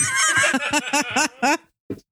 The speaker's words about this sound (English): I'm still kind of darkly laughing about the honk noise.